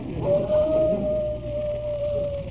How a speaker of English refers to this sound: Gotta leave you now. My wife's calling me. Sounds like a wolf.